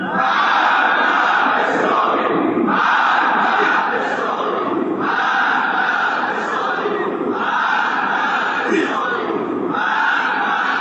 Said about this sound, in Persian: همینجا باید صدای محکومیت سازش را به گوش سازشکاران برسانیم با فریاد مرگ بر اسرائیل.